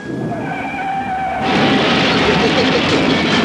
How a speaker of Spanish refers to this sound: El doctor Quiro suelta el volante, guiando con una mano, y con la otra hace funcionar un pequeño y compacto aparato negro. Casi instantáneamente. Varios estallidos tremendos se oyen en las calles.